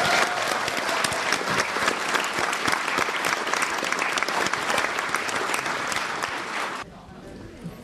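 A large audience at a members' forum applauds steadily after hearing the event has over 1000 participants, a dense, even wash of clapping that holds for several seconds before cutting off abruptly, leaving a faint murmur.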